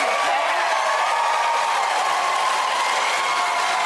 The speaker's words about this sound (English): And of course, the crowd goes wild.